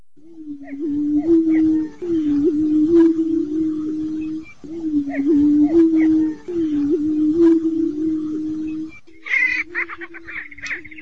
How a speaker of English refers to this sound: Recently, I ran into a couple of citizens from Hardin County who were in Kellerton to hear and see prairie chickens.